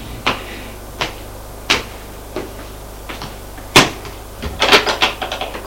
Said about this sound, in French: On accède au grenier par des escaliers de bois qui se trouvent au dernier étage. Escalier étroit et poussiéreux. En haut des escaliers se trouve une porte de bois qui fait...